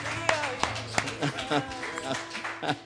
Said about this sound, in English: I just feel like we should give the Lord a hand clap of praise. Amen.